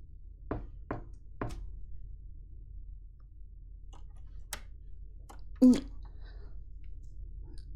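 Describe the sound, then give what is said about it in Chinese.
Three sharp knocks on a door in quick succession on a Saturday, followed by a few fainter taps and a brief muffled thump, set against quiet room tone, with no one opening the door. “今天不是周六吗？怎么没人开门呀？”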